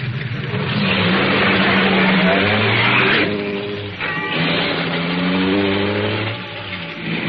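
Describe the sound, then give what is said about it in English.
A car engine revs up and accelerates as the car gets back onto the road, pitch climbing through several gear-like rises with a brief dip around midway, steady and loud throughout with no voices. “Once I got the car back on the road again, I felt like a fool.”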